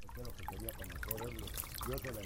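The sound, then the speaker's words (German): A small trickle of irrigation water, led onto dry fields in Chiquimula province, Guatemala, trickles and splashes steadily throughout, fairly loud, while a man's voice talks over it. “zeigt das Rinnsal, das er auf seine trockenen Äcker leitet.”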